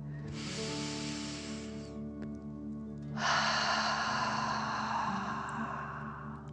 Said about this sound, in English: Now, let's take 3 more deep dragon breaths. Remember to breathe in through your nose, filling up your chest and belly, and then out, pretending you are breathing fire. Deep breath in and out.